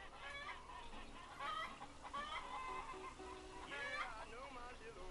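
Several Barred Rock chickens cluck and squawk continuously in short, overlapping calls, fairly loud, over a busy background throughout.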